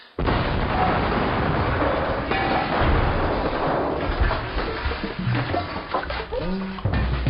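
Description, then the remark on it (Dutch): A heavy explosion in a mine cave erupts and rolls on as a dense, loud rumble for several seconds as the cave collapses, thick with low booming and crackling debris that gradually thins out toward the end. “Die knal was veel te zwaar. Het zou me verwonderen als de hele boel niet is ingestort.”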